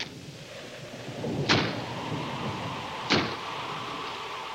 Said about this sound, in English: Just the wind banging a door. Pay no attention to it.